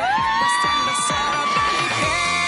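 A show audience cheers loudly and continuously for a contestant, with applause used to pick a winner, high sustained shouts and whoops rising over a dense, steady roar of voices.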